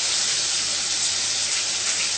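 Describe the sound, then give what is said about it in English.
Water boiling in a pot for cooking vegetables, a steady rush of bubbling and hissing that holds evenly for the whole stretch, with no voices over it. “water boil.”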